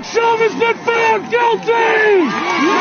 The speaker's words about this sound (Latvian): Lai noklausītos zvērināto lēmumu gan vietā, kur norisinās prāva, gan vietā, kur Floyds tika nogalināts, pulcējās daudz cilvēku. Pēc lēmuma paziņošanas ielās bija dzirdamas gaviles.